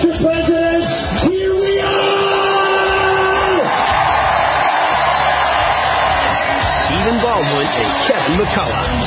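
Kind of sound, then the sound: crowd, crowd cheering and applauding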